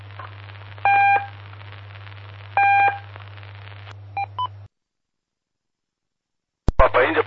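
Morse code telegraphy beeps sent during a telegraphy lesson from the town of Rodeio: two long tones followed by two quick short ones, clear and fairly loud over a steady low electrical hum, then silence and a brief burst of noise.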